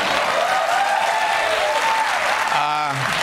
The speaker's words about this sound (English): Feel free to applaud.